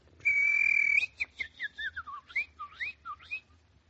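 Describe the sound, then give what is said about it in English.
Someone whistles an imitation of birdsong: a long, steady high note, then a quick run of warbling, swooping chirps rising and falling in pitch. No talking. “I'm a rooster who sings like a bird.”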